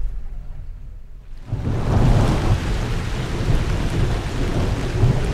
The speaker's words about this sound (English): The summer rains begin to fall. They've come late today.